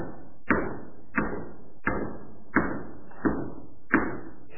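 Six evenly spaced hammer blows land at a steady, unhurried rhythm, each a sharp thud followed by a short ringing decay, with no voices.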